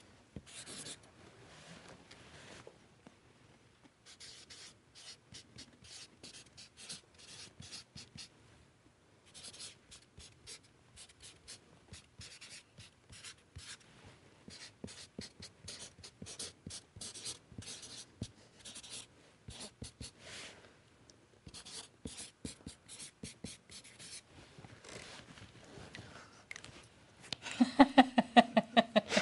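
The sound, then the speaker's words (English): A pen scratches steadily across paper as someone draws, with short strokes and brief pauses, then a burst of louder squeaky marks near the end. “And, even though this is a technology kind of show, we make people do this with a pen and paper rather than a computer screen and things like that.”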